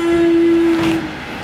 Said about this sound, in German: Oh, jetzt kommt ein Zug, jetzt gehe ich hier schnell rein.